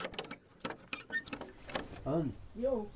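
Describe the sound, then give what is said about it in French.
Rattling of keys and sharp metallic clicks as the lock of a small 2 by 3 metre cabin door is worked, followed by the door opening as a small woman greets the visitor, with brief, wavering voiced sounds near the end. “Lorsque la porte s'ouvre enfin, une dame menue m'accueille tout sourire.”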